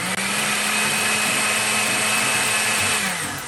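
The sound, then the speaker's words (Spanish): A blender runs steadily at high speed, blending ingredients into a smooth, creamy mixture, a loud whirring motor roar that holds constant for a few seconds before easing slightly at the end, with no voices. “Una vez que ya tienes todos estos ingredientes dentro de la licuadora, licuamos hasta obtener una mezcla suave y cremosa.”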